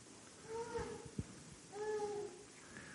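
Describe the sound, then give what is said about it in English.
A donkey brays in two drawn-out, harsh calls separated by a short pause, fairly loud, with no one talking. “Well, Mr. Donkey, you and I got work to do in Jerusalem.”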